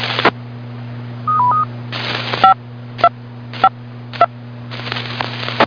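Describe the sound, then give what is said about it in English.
A short run of DTMF touch-tone control beeps sent to bring down the NC4VA Central Carolina Skywarn amateur radio repeater: brief dual-tone chirps spaced about half a second apart, set off by sharp static bursts and clicks over a steady low hum. “NC4VA, Central Carolina Skywarn, and I'm going to bring down the tones at this time.”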